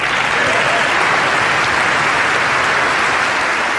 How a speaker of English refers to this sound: Now, I timed the applause. We're not going to play it all because it lasts so very long. It lasts a minute and 40 seconds.